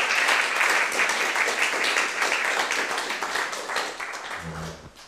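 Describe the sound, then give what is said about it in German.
A crowd applauds a woman for what she did, with dense, steady clapping that holds strong for several seconds before gradually thinning and fading, with a brief low murmur near the end. “Könnt ihr ruhig mal klatschen, das hat sie ganz super gemacht.”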